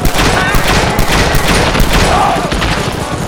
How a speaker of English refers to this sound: Sheriff Gibson and several other townspeople who were down by the fire had been alerted by the sounds of gunshots coming from the bank.